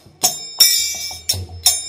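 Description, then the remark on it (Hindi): Bright metallic kartal hand-cymbal clashes ring out in a loose rhythm, four strikes with one long shimmering hold, over a low thudding mridang drum pulse, with conch, in a devotional kirtan at a temple, fairly loud. “मृदंग मंदिर बाजे शंख करताल, मृदंग करताल शंख सब बज रहा था।”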